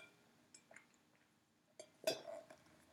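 drinking water

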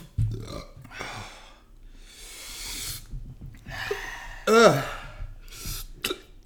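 hiccups

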